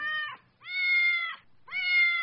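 A house cat meows three times in a row, each call long, drawn-out and tonal, fairly loud with brief pauses between, no one speaking.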